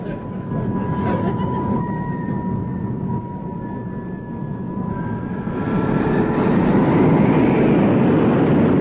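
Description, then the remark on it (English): A heavy bus engine revs hard and continuously, a deep droning roar with a whining tone, swelling louder partway through as it strains while the wheels spin in mud. “Listen to him erasing that engine. Yeah, but the wheels must be spinning in the mud.”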